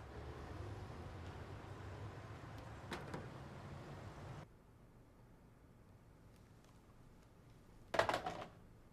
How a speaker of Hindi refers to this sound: गाड़ियों की आवाज आ रही थी।